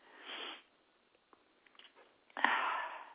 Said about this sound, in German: Es kann sein, dass sie niesen muss, obwohl sie das nicht unbedingt will, weil sie nicht weiß, was für große Wellen sie dann losflutet, sozusagen.